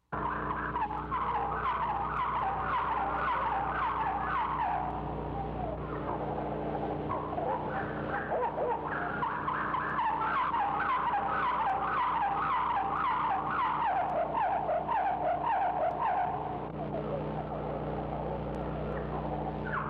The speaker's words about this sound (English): house wren songs are divided into three or four parts, introductory passages, a main theme, and one or two concluding sections. The house wren always announces the main theme first and then proceeds to add sections before and after it.